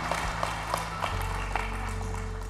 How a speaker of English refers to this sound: Come on, give him a great and clap of praise.